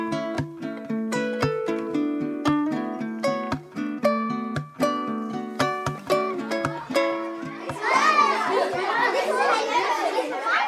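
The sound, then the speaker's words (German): A noisy classroom of children in class 4b at the Meliboko School, their overlapping voices calling and chattering with sharp knocks and clatters, growing into a dense, loud babble toward the end. “In der Schule muss man zwar nicht unbedingt mit gefährlichen Knallgeräuschen rechnen, aber bei der Klasse 4b in der Meliboko-Schule geht es manchmal auch ganz schön laut zu.”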